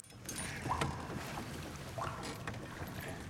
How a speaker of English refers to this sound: You are hearing, you know, water droplets and boats moving stealthily through the water in an act of subterfuge.